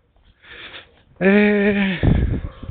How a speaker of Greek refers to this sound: Εντάξει, τώρα θα μου λέει πάλι θα μου λένε οι ακροατές ότι ακούγεται το λαχάνιασμα, αλλά δυστυχώς για να μπορέσω τουλάχιστον να κάνω εκπομπή σήμερα θα πρέπει να την κάνω καθώς περπατάω. Έχει αρκετή ζέστη.